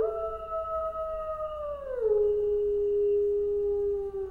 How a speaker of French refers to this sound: C'est peut-être les loups. J'entends les loups.